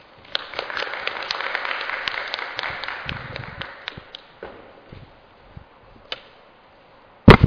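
An audience applauds: dense, overlapping clapping that gradually thins out and dies away after about five seconds, then a lone sharp thump near the end. No one speaks.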